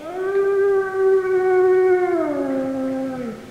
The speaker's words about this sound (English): Why, that's beautiful, but kind of spooky, especially after dark. But a wolf doesn't just howl after dark. You don't? No, a wolf howls any time of the day or night,